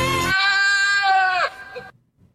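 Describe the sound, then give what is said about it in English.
A goat in an OTR Capital commercial lets out one long, loud, wavering bleat that rises and bends like a sung note, lasting over a second before trailing off into near silence. “What's a singing goat have to do with factoring?”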